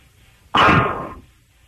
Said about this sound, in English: By the way, that heavy breathing is from your girlfriend